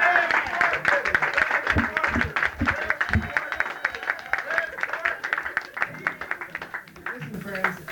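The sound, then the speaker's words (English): An audience applauds steadily for the full stretch to welcome a musician introduced on stage, a dense wash of many hands clapping at once with scattered cheers and voices mixed in, fairly loud and thinning slightly near the end. “I was just informed from backstage that unless you just applaud a little bit more, he won't play.”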